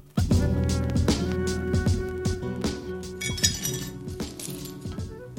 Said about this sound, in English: Somewhere between the dishwasher and the cupboard shelf, a wine glass breaks. Maybe I swing wide and tap the counter edge. Maybe it's slippery and I just drop it.